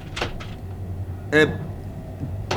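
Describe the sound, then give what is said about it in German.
A couple of soft knocks on a door, spaced apart, followed by a brief voice calling out and another faint knock near the end over a low background hum. “Klopf an”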